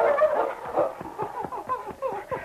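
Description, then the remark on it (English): A dog, King, whines in a run of high, wavering whimpers that rise and fall for a couple of seconds as it runs back and forth on the edge of a snow-covered ravine, with faint scuffling underneath. “King whined and ran back and forth on the edge of the ravine.”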